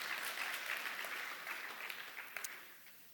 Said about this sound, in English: That's right, you can clap for that. Come on, that deserves a little bit of applause.